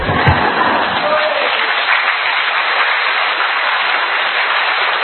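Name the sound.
audience applause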